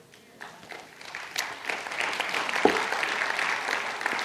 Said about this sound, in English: It's okay to clap. That's part of worship, is celebrating how God actually changes people.